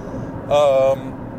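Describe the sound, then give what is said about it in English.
Steady low rumble of a car interior while driving, about to go over some bumps, constant throughout, with a brief voice cutting in over it for a moment midway. “First, in case you couldn't hear, I'm in my car, about to hit some bumps, because I live on a mountain in the middle of nowhere.”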